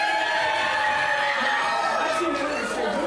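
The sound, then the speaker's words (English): A crowd cheers and shouts steadily for about three seconds, many overlapping high voices blending into a loud, continuous roar with occasional rising whoops; the yellow team is cheering during a points-based team contest. “10,000 points to the yellow team for their spirit and cheering.”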